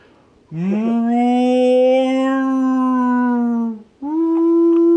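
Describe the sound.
A person imitates a whale call with a long, drawn-out moaning tone lasting several seconds, loud, then breaks briefly before starting a second sustained moan.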